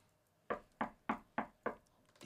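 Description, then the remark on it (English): Five firm, evenly spaced knocks on a door, fairly loud, with a short quiet stretch after them and no talking; someone knocking at the door. “Oh, hold on. Somebody at the door, baby.”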